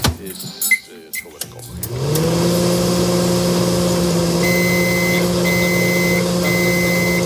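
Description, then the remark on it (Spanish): A few clicks and clunks as a door shuts and buttons are pressed, then a microwave oven heating a cup of milk for a minute and a half starts up with a steady droning hum that continues unbroken, with a faint high whine above it. “Y como cada mañana, pones un minuto y medio una taza de leche en el microondas.”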